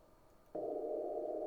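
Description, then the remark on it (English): A low background hiss, then about half a second in a steady, buzzy distortion product tone switches on and holds unchanged to the end, sitting just above the quiet noise floor. “So I'm going to play a little clip here that shows the distortion product at the noise floor.”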